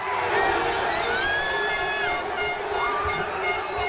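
Football fans cheer in a dense, steady roar in the fan zone in the heart of Rome after the final whistle, as Italy wins the European title, with sustained high whistle or horn tones rising and falling above the crowd noise throughout.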